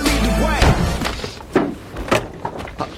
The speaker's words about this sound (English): The blonde enters the office. He doesn't react until she slams the door.